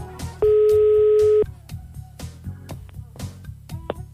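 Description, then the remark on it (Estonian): A single steady telephone ringback tone sounds for about a second, loud and clear, as a call is placed to a person on their birthday, followed by quieter background chatter and soft clattering noises. “Nii, kuuleme, et telefon kutsub.”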